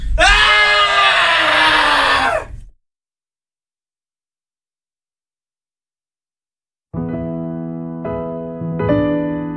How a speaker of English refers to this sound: And now, screaming.